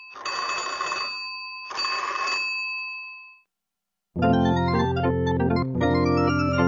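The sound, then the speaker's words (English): An old-fashioned telephone bell rings twice in quick bursts, loud, with a metallic ringing tail that fades out before a short silence and then sustained instrumental music. “They could always phone for help.”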